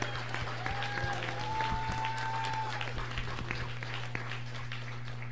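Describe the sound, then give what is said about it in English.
A crowd at an awards event applauds steadily throughout, the dense clapping sustained at moderate volume over a low constant hum, with a few faint whistles rising above it. “So you need to give her a round of applause for keeping me on the straight and narrow.”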